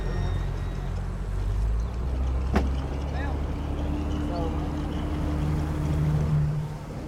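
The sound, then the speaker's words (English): A steady low motorboat engine drone runs throughout, with washing wake and water noise over it, a brief sharp click midway and faint wind buffeting. “Okay, these are some sounds of the motorboat engine, just like the wake and that kind of stuff.”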